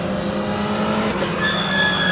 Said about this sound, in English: You heard that brake squeal? I'm sure that was right in front of us.